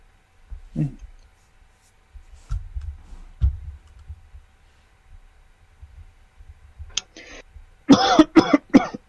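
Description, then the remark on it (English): A person coughs several times in quick succession near the end, loud, after a mostly quiet stretch with a few soft low thumps and a faint throaty sound. “I had a bit of a cough.”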